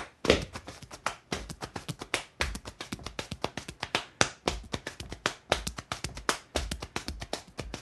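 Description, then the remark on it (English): Hambone body percussion: rapid, rhythmic hand slaps on leg and chest, a steady syncopated stream of sharp, fleshy smacks with varying pitch, played alone without talking. “When I was coming through school, that was one of the things that you wanted to learn how to do was ham bone. And that's, you know, how you slap your hand on your leg and your chest.”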